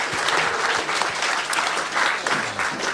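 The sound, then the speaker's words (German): A brief burst of clapping from a small group for a correct answer in a quiz, steady, filling the whole moment without any talking. “Okay, mutiger Mann, vielleicht kleinen Applaus für die richtige Antwort.”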